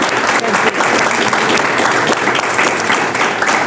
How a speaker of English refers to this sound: So why don't we give our president a round of applause?